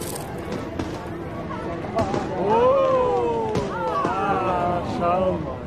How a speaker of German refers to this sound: Das Feuerwerk hatte begonnen.